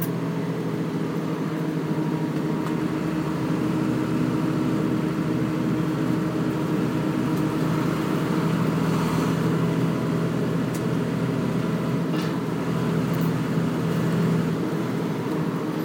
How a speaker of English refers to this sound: They used to run this type of configuration of Routemaster, or a Routemaster with this type of engine, on the 13 near Golders Green, which I've been on a few times